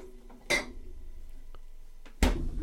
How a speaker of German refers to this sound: Ach so, ja, ein Bierchen werde ich mal aus dem Kühlschrank nehmen.